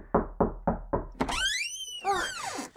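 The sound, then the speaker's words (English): Four quick, firm knocks on a door, followed by a loud, drawn-out squeaky creak as the door is opened really fast, with a second rising-and-falling creak. “I'm sorry, you just opened the door really fast.”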